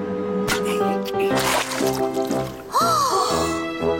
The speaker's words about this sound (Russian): Зачем вы льете на себя холодную воду? Вы же заболеете!